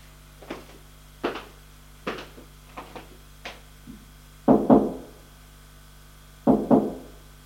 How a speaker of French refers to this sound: Il va frapper à la porte.